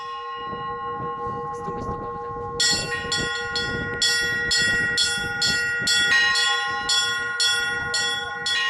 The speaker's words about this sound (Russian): В течение пасхальной недели во всех церквах разрешается звонить в колокола. Любой желающий может выразить свою радость праздничным колокольным звоном.